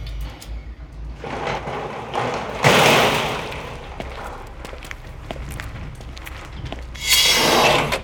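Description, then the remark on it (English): A sci-fi spaceship door slides open and shut, two bright, airy hissing whooshes a few seconds apart, with soft thuds and clicks scattered between them and no one talking. “Even the door makes a dumb sound.”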